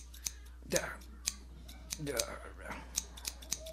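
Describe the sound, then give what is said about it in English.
A pair of scissors snips, about eight quick, crisp metallic cuts in an irregular rhythm, with faint murmuring voices now and then underneath. “Feller went to get a scissors.”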